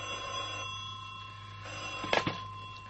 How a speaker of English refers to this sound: Unless, that is, one morning at the office, the phone on his desk rings.